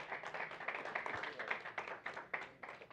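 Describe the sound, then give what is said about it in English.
A crowd claps steadily for several seconds, a dense patter of many hands with a few sharper individual claps standing out, continuous; the audience is giving the ladies a hand clap. “You can give the ladies a hand clap.”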